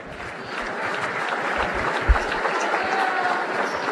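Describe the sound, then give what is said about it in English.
Steady applause from a sizable audience honoring a team member at an awards ceremony, many hands clapping in a dense, even wash that holds at a constant level throughout, with no talking over it. “Round of applause for Conrad Gabauer.”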